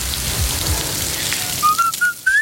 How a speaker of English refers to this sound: And the patties are made from whole cuts of beef, sourced from farms across Britain and Ireland, with a pinch of salt and pepper, nothing else. There's not much else to say, really. That sizzle speaks louder than words.